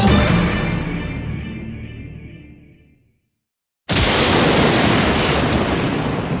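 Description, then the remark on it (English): A lightning blast sound effect: a loud crackling boom fades out over about three seconds, then after a brief silence a second sharp blast erupts into a sustained, full-bodied roar of thunder. “Well, I vote that we move into a lightning round and carry on the discussion after the lightning blast.”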